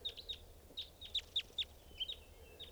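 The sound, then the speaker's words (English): A flock of about 20 birds clucking, with a series of short, high-pitched calls repeating in an irregular rhythm over a low steady hum, no voices present. “Must be 20 birds. There's a bird right here, staying here.”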